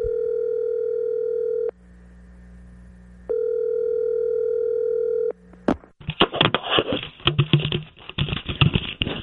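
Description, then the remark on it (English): A steady, mid-pitched telephone tone sounds in two long bursts with a quiet gap between them as a call is placed to Tiger Woods, then gives way to a burst of loud clattering, clicking noise. No one speaks. “We're going to call Tiger Woods, old friend of the show.”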